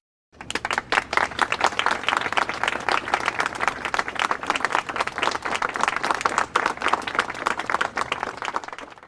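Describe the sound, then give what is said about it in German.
A crowd applauds steadily and loudly, many hands clapping in a dense, continuous patter that starts abruptly and keeps going without pause, with no one speaking over it. “Apropos rocken und Applaus für uns selber.”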